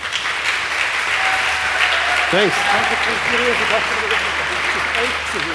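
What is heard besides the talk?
audience applause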